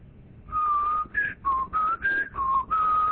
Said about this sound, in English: Can't whistle either.